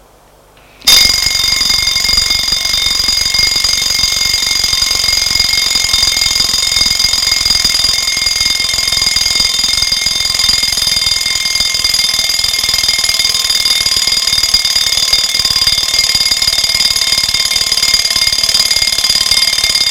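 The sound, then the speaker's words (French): An alarm clock set to wake someone up rings loudly and continuously, a steady high-pitched metallic buzzing that starts abruptly after a brief moment of silence and keeps going without pause. “Et a attendu que le réveil sonne pour se lever.”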